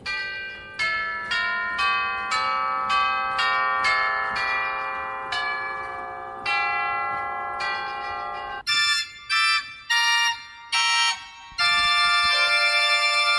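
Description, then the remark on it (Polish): Real tubular bells built into a German-made pipe organ, not electronics, ring out: a rapid run of struck chimes with long overlapping resonance, then a few detached strokes and a final sustained chord. Loud, no talking. “Te dzwony rurowe rzeczywiście są w tych organach, tak?”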